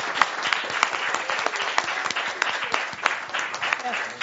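A crowd applauds steadily, many hands clapping in a dense, continuous patter that stays fairly loud and even throughout, with no one speaking over it.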